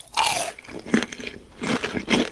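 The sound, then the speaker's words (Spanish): Crunchy chewing of a fried churro topped with chocolate, several crisp bites and munches in irregular bursts, loud with no talking. “El sonido de la, El sonido del churro ahí masticando.”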